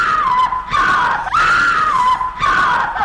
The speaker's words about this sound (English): The woman, for Christ's sake. And still hear the screams.